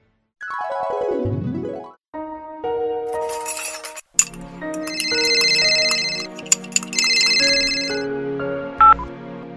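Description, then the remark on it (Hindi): A melodic electronic phone ringtone plays alone for an incoming call from the answerer's mother, with a falling chirpy intro followed by repeating bright tonal chime phrases and brief pauses between them, ending with a short beep. “नमस्ते माँ, कैसी हो? बहुत दिनों बाद फोन किया है आपने।”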